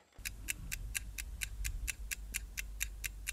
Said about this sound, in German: Die Uhr tickt im Ausstellungsraum des Deutschen Historischen Museums